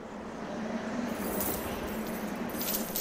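A ring of keys jangles in irregular bursts of bright metallic clinks, heard alone over a steady background hiss with no talking.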